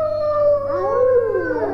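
wolf howling

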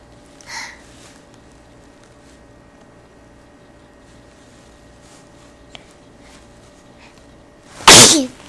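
repeated sneezing

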